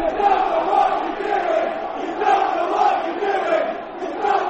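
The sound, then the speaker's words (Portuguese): A large crowd of Chelsea football fans chants "You don't know what you are doing" at Chelsea coach Sarri during a 4-0 defeat to Bournemouth, a loud, sustained mass of voices rising and falling in a steady rhythmic cadence with no pauses. “Era o grito dos adeptos do Chelsea.”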